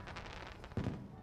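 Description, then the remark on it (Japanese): Fireworks going off at an amusement park: a quick run of crackling pops, then a deeper, louder boom near the end, with no voices over them. “アトラクションも乗ったし、グッズも買ったし、あとは花火見るだけだね。”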